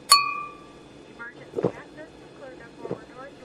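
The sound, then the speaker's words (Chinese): A single bright clink of wine glasses in a toast with a bottle of 1982 Lafite rings out at the start aboard an airplane about to take off. Its clear tone lingers briefly, followed by soft talking over a steady low cabin hum. “干杯。”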